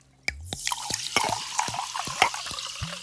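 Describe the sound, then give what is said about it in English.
Topo Chico sparkling mineral water being poured from a glass bottle, with a steady fizzing hiss and a run of quick, bubbly glugs that rise in pitch, moderately loud and with no talking. “Pour me some of that Topo Chico.”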